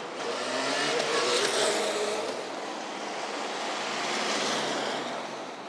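A car drives past on a road, a steady broad whoosh of tyres and engine that swells, eases slightly, then swells again before fading a little. No one speaks.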